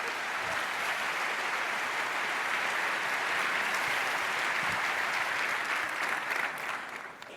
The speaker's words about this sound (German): Heißt sie herzlich willkommen auf der Bühne. Großen Applaus.